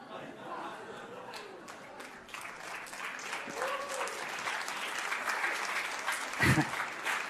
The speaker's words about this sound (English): Why are people are clapping right now? Because they love worship, because they're praying for the kingdom to come and his will to be done on earth as it is.